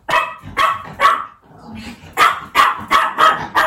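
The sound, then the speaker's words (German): A dog named Blacky barks in a quick series of sharp, mid-pitched yaps, about eight in all, with a short pause partway through before the barking resumes in a steady rhythm. “Er kann laut sein.”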